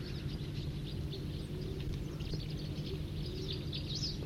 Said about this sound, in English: And other crossbills nearby giving song phrases and trills. That was a song phrase.